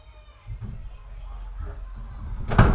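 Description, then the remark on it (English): A steady low rumble of an idling vehicle parked near a school, with soft shuffling as someone gets out, then a sharp car door thump near the end as it is pulled shut. “Let's get out of the vehicle and see what he's up to. Just pointing where I should park. Don't forget the door.”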